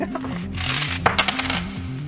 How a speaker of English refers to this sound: Let's light up shoot number 2, please. And in your own time, release the coin. And release the coin.